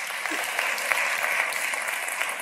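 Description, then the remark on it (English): An audience gives a brief, awkward round of clapping: a steady, even patter of many hands with a few sharper claps standing out, and no one speaking. “That's an awkward clap.”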